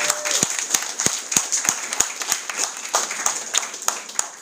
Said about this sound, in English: I just want to honor him right now. Would we just lift up a clap to celebrate Pastor Mike?